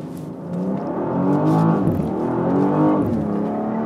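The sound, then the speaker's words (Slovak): A 1.8-tonne car drives along with a steady, loud engine drone whose pitch rises and falls as the revs shift, with a couple of noticeable swells partway through. No voices are heard. “Že to je tak ľahko kontrolovateľné auto.”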